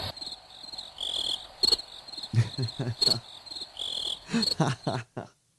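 Crickets chirp in a steady, shrill, pulsing chorus, continuous, with some soft low thumps underneath before it cuts off abruptly.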